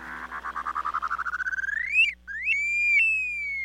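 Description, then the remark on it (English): An upland sandpiper calls alone: a quick, bubbling trill that speeds up and climbs in pitch, then breaks into a long, rising, drawn-out whistle, clear. “At number three, the upland sandpiper.”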